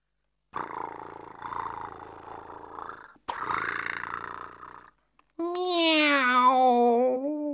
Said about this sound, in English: Meow.